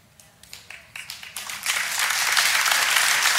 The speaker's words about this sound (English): Thank you, Mom, for getting the clapping started. I always love it when Mom gets the clapping started, right?